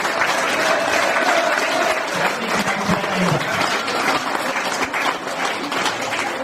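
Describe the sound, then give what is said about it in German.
A crowd applauds steadily, a dense, even wash of many hands clapping at a constant loud level for several seconds, with faint voices mixed in underneath. “Ein Applaus.”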